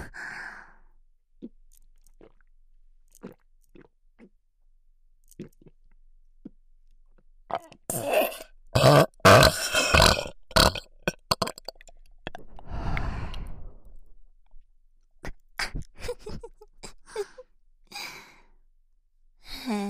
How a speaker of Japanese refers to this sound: ドスケベ魔女のピンク色の甘いゲップ、お耳にまとわりついて取れない。